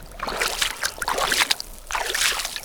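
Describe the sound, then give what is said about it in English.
Bare feet, with pants rolled up, slosh and splash through shallow cold water in a steady series of uneven wading steps, fairly loud, with no voices. The water is about 6 to 8 inches deep, about 12 feet from shore, with the snow-capped Panamint Mountains in view. “Okay, so it's not like I'm going to come all this way without trying this myself, so the shoes and socks are off, pants are rolled up, let's get into the water.”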